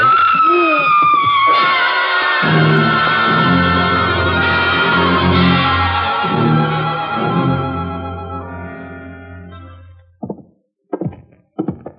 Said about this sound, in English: That was a woman screaming